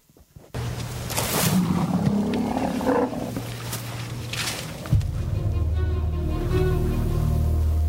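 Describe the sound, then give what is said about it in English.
Elephants in the wild in the Kalahari Desert, southern Africa, during the dry season, travelling in search of water, give deep, loud rumbling calls and roar-like bellows that start abruptly and continue throughout, with a sharper burst midway and steady low rumbling after, no talking. “where are we going to go? Obviously, the elephants.”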